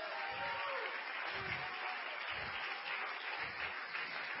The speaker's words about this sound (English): Come on, clap your hands and give the Lord a great praise.